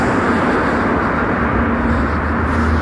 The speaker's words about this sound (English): It's a lovely day. As always in San Francisco, I compared to Glasgow. So we're walking down Mission now. There's cars passing us.